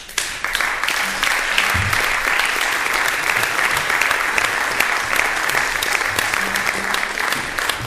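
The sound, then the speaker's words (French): A crowd of spectators applauds loudly and steadily for several seconds at a show presenting strange human specimens, a dense wash of clapping hands with no pauses and a few faint voices mixed in. “Je vous demanderai de les applaudir bien fort.”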